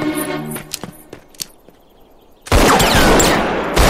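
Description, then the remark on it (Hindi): Bandits fire their guns continuously: a few sharp, scattered gunshots crack out over a fading tone, then a loud, dense barrage of continuous gunfire erupts and rattles on without pause until the end. “डाकू लगातार गोलियां चला रहे हैं।”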